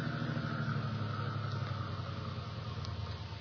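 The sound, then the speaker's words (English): A car engine idles with a steady, low rumbling hum, holding an even level throughout with no voices over it, before the engine is cut; the car has stopped on a road that curves beside a cliff. “I cut your engine.”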